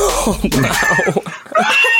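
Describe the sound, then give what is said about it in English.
A person's voice makes a loud, raspy imitation of an animal call, a harsh cross between a bark and a screeching caribou cry, in a few strained, wavering bursts. “Is it makes noises halfway between a bark and a caribou scream.”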